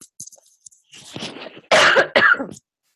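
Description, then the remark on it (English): A person coughs: a few soft, breathy lead-ins followed by two loud, harsh coughs in quick succession, with no talking. “Sorry about the cough.”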